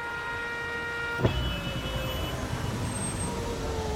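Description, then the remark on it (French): Heavy bumper-to-bumper traffic idling at a motorway toll in France, a steady drone of engines with a low rumble and sustained humming tones, broken once by a short sharp knock early on. “C'est pour éviter ces embouteillages par choc contre par choc au péage que deux sociétés françaises d'autoroutes testent depuis quelques mois le free flow”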